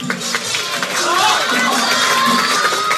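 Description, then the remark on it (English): A dense, noisy crowd cheers on a young writer who froze during a timed writing contest, roaring steadily throughout with overlapping voices and shouts blending into continuous cheering, loud, with no single voice standing out. “The seconds are ticking by, so the crowd starts cheering him on.”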